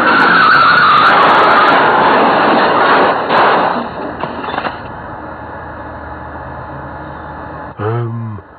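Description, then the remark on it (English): A car roars and skids loudly, then a few sharp crunching impacts mark a crash before the noise drops to a low idle rumble, ending with a brief tonal blare. “I seem to have crashed, actually.”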